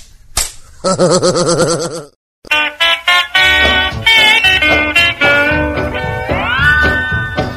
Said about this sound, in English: Slap her down again, Pa, slap her down again. Take that, and that, and that.